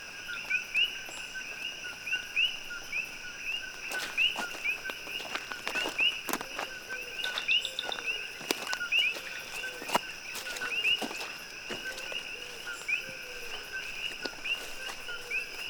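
Frogs call in an Amazon rainforest chorus, steady high-pitched trilling tones layered with repeated short chirps every second or so, while sharp clicks and light patter punctuate the night ambience. No voices.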